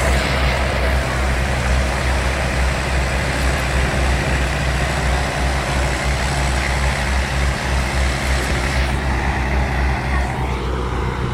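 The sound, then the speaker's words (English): Deep, steady rumble of the engines of a large craft, probably about 30 meters long, coming up onto the shore, a loud continuous drone with a throbbing low hum that barely changes over several seconds. “Engines now.”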